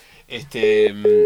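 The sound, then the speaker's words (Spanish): A telephone busy tone after a phone call with the mayor of Renca drops: a steady electronic beep pulses on and off, clear and fairly loud, following a brief burst of garbled line noise. “Directamente creo que ya se cortó.”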